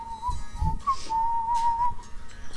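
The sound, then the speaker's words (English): A clear, steady whistled melody glides along over softly strummed acoustic guitar in a song's intro, the tune holding long notes with small slides as the guitar keeps a light rhythm underneath. No one talks. “Some whistles and some acoustic guitar riffs.”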